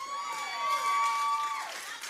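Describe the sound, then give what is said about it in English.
A crowd of black women erupts in high-pitched screaming and cheering, with shrill sustained cries and whoops layered over a dense wash of voices, loud and continuous throughout. “And listen to the women screaming how that everyone should be led by men.”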